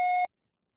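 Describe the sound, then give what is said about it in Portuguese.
A single short electronic beep, about a quarter second long, with a steady tone and bright harmonics, cutting off abruptly into silence: a phone voicemail prompt to start recording a message. “Grave seu recado.”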